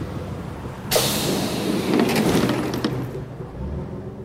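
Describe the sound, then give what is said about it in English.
A bus's steady low engine rumble, then a sudden loud hiss of air as its doors open, followed by clunks and rattling before the hiss fades and the idling drone continues. “Look, this is our bus.”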